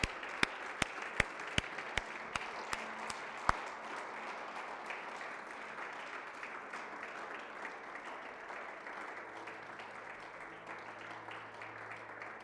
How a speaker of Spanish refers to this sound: Y mientras nos ponemos de pie, podemos alabar a Dios, darle un fuerte aplauso a Dios por su cuidado, por su protección. Vamos, déselo más fuerte.